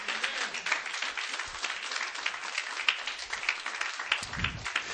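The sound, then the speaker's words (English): A church audience claps hands unto God steadily for several seconds, a dense, continuous patter of many overlapping claps at an even loudness, with a faint low murmur near the end. “Come on, clap your hands unto God tonight.”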